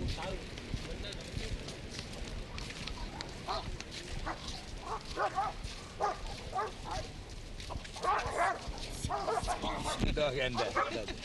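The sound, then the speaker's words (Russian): Several dogs, including a bulldog, bark, yelp and snarl in a rough, overlapping tangle as they fight, with a noisy background of voices and commotion throughout, the barking growing louder and denser toward the end. “Драка собак.”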